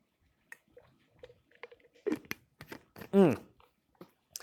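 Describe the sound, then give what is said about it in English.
Someone grabs a glass and drinks water: scattered soft clicks and wet handling noises, then a brief louder gulping, squeaky swallow near the end, with no talking. “I'm going to grab a drink of water real quick as we're turning to John 15, 9 through 17”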